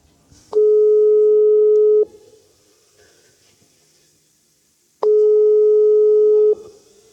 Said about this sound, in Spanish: Le damos a llamar en el WhatsApp. Ponemos el altavoz.